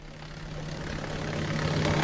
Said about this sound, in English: And it is this. A helicopter? I wish. It is the wood chipper. It is the wood chipper.